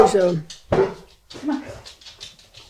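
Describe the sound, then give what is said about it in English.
A female Chesapeake Bay Retriever named Izzy (Isabel) gives a few sharp, loud barks, spaced irregularly over a couple of seconds, with some muffled voice-like sounds in between. “She's a Chesapeake. Chesapeake. Yeah. Chesapeake Bay Retriever.”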